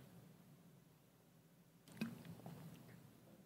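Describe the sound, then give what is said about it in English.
A preacher pauses an evening sermon to take a quick drink of water: a soft clunk and sip, then a few faint, wet swallowing sounds over a low room hum, with no talking. “But what I did want to do is Pastor addressed something this past, let me get some water, I'm sorry.”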